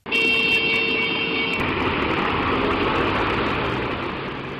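A steady, loud roar of a convoy of farm tractors crawling along a highway in the Czech Republic during a farmers' protest, with cars and heavy trucks backed up behind. A sustained horn-like tone blares over the first part before the dense traffic rumble carries on alone.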